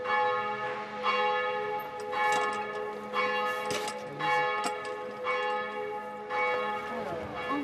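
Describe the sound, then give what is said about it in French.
Church bells of the Église Saint-Louis in Lille peal continuously, with strikes landing roughly every second over a sustained wash of overlapping, shimmering overtones. The ringing stays steady and full throughout, with no voices. “Église Saint-Louis en Lille.”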